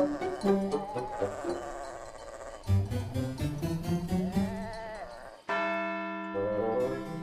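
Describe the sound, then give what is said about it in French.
A dense, overlapping jangle of many livestock bells and clarines on sheep and goats around the farm and cows in transhumance, clanking irregularly at varied pitches, with a bleating animal and a steady, ringing bell tone toward the end. “Donc là, on entend, j'aimerais presque dire, toutes les sortes de cloches, de clarines, parce que vous avez différentes bêtes.”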